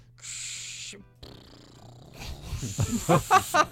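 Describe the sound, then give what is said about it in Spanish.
Someone vocally imitates airplane landing gear: a steady breathy hiss, then a rougher rushing noise, ending in a quick run of loud, snorting, almost horse-like bursts. No words are spoken. “¿Cómo suena el tren de aterrizaje?”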